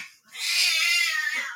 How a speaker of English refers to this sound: And my cats are apparently having a conversation right now.